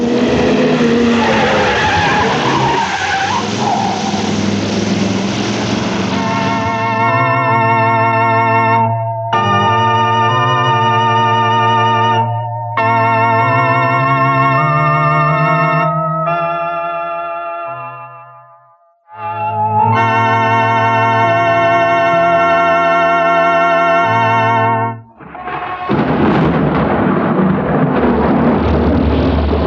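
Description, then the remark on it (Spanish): A car races at high speed through a thunderstorm, its engine whining in sustained revving tones with screeching tires, framed by loud rumbling roars of storm noise at the start and end. No voices. “El auto avanza a toda velocidad bajo la tormenta.”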